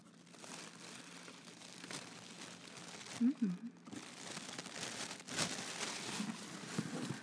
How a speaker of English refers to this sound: Well, the ugly tissue paper is off the box, and now there's really pretty purple tissue paper underneath that.